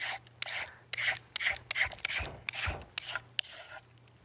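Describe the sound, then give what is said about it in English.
Repeated scraping strokes of a peeler drawn along a carrot, peeling it into ribbons, about eight or nine quick rasping passes in a steady rhythm, with a faint low hum underneath and no talking. “So we're just going to just peel the carrot. Make sure you go all the way down to the bottom.”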